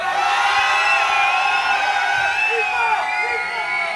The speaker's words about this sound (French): Moi je voudrais qu'on crie tellement fort que la pluie elle s'arrête. On essaye à 3, 1, 2, 3.